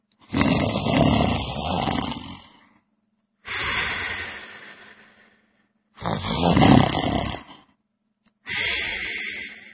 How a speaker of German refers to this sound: Sicherlich ist Schnarchen der Beginn einer Krankheit und einer Beeinträchtigung der Merk- und Konzentrationsfähigkeit. Schnarchen, der Beginn einer Krankheit?